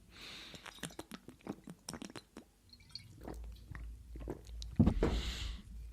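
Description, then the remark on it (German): Someone takes a sip of water: a run of small wet mouth clicks and smacks, then a fuller gulping swallow near the end, with no talking. “Ich nehme gleich mal einen Schluck Wasser hier.”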